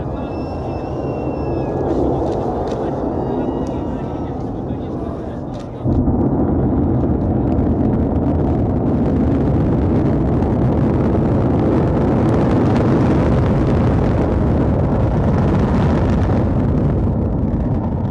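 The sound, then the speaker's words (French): The Soyuz rocket carrying Thomas Pesquet launches at night around 2:20 a.m. under a clear sky at nearly minus 30 degrees: a loud, sustained low roar that surges abruptly about six seconds in as the first stage ignites, then keeps rumbling and crackling at full power, with faint voices and whistling tones at the start. “Il fait jour en pleine nuit, le sol tremble, la puissance dégagée par la fusée est incroyable, 20 millions de chevaux.”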